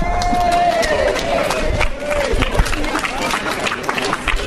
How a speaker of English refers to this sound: So we should give ourselves a huge round of applause for that.